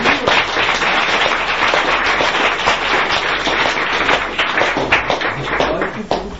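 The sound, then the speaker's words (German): A crowd applauds steadily for several seconds, a dense wash of many hands clapping at once, fairly loud, with a few faint voices mixed in. “Noch einmal einen großen Applaus”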